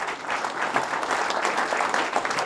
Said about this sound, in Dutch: Applaus!